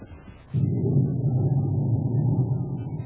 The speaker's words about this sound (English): As the storm builds in violence, Buzz and Abby stand in the darkened office shop, looking out the window toward Baccarati's small, blue atmosphere ship. An occasional flash of lightning brings every inch of the prison yard into full brilliance.